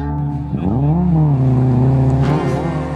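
A car engine roars, revving up and down as the vehicle drives fast around a curve at 60, with the pitch rising and falling steadily for the full three seconds; no one speaks.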